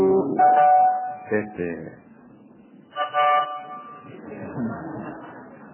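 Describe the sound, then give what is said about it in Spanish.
Several car horns honk in short and long blasts from vehicles held up behind a bus stopped in the middle of a narrow street: a sustained honk followed by quick toots and another loud blast, with a murmur of traffic and voices underneath. “Estaban todos tocando bocina atrás.”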